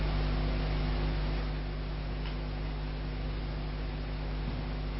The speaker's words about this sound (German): Das Rauschen von Ventilatoren.